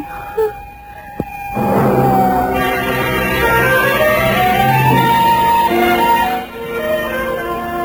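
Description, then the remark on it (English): An ambulance siren wails loudly, its rising and falling tones sustained for several seconds after a couple of brief sharp clicks at the start. “Take it easy. It's only the ambulance.”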